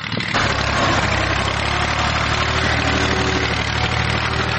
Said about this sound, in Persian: در ولسوالی واشهر ولایت هلمند افراد مسلح طالبان در نزدیکی یک زمین کشت کوکنار ساده و تماشا می کنند که چگونه تراکتور کشت کوکنار را تخریب می کند.